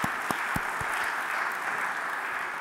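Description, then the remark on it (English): A room full of people clapping together at an Easter service, a steady wash of applause with a few sharper individual claps standing out near the start, sustained and moderately loud throughout. “My goodness, go look yourself a round of applause.”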